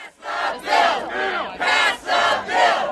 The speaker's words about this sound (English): On a lawn outside the House of Representatives, a couple hundred demonstrators, many in shirts with union logos, demanded last week that the GOP-led House take up the president's jobs bill and pass it.